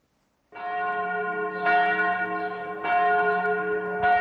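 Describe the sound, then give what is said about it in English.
Bells of the Church of the Nativity in Bethlehem, West Bank, ring out loudly and continuously at Christmas, summoning the faithful, new strikes landing roughly every second or so with rich, sustained tones overlapping one another. No voices are heard. “Bells at the Church of the Nativity summon the faithful to celebrate Christmas at the traditional birthplace of Jesus in the West Bank town of Bethlehem.”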